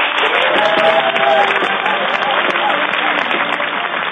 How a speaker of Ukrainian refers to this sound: Німці завжди зустрічають Віталія та Володимира Кличків під гучні аплодисменти та вітання. Не стало винятком і ток-шоу Йоганнеса Кернера